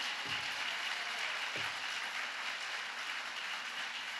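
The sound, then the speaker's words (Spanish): Sustained applause from an audience clapping for the Lord, a dense, even patter of many hands clapping at steady volume throughout, with no voices standing out above it. “Dale un aplauso al Señor, oye, pues qué bueno.”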